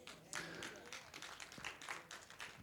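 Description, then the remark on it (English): Thin, scattered applause from a small number of people, with irregular sharp claps that never build into a full ovation, over a faint murmur of voices. “That was the saddest applause for one of the best points I have ever made.”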